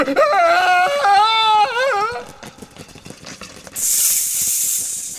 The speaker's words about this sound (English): Look behind you. A snake!